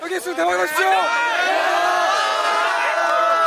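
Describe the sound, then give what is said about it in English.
High school sophomores and juniors in Korea, carrying banners, shout good-luck chants and cheer for seniors taking the exam, in loud, sustained rising-and-falling chants, energetic and continuous throughout, with many overlapping young voices. “Shouting good luck on your exam, sophomores and juniors bring banners to cheer on and encourage the seniors taking the exam.”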